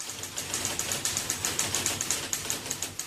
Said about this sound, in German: Und obwohl man an Orten mit vielen Schreibmaschinen kaum sein eigenes Wort verstehen konnte, brachte die Erfindung den Menschen viele Erleichterungen.